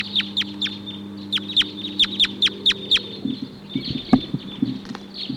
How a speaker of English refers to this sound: There's a huge flock of crossbills here now. About 14 or 16 birds. Yeah. But according to the birds, wild birds are chittering in the treetops, and some are starting to come down.